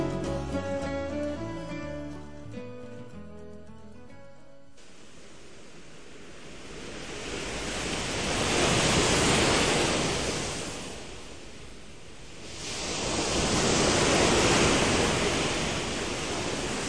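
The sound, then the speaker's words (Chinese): After a few seconds of gentle music, rough ocean waves roar in a steady wash, swelling into two big surges that rise and fall, loud, with no voices. “波尔勇敢地游进了大海里，大海汹涌的波涛用力地推着他，这让他感到既兴奋又害怕。”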